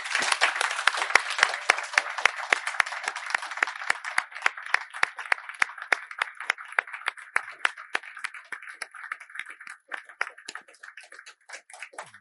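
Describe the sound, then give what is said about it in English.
An audience applauds the kitchen team in a dense, steady wash of many hands clapping. It stays strong for several seconds, then gradually thins into scattered individual claps as it fades out. “And maybe we can make a little applause for the kitchen team.”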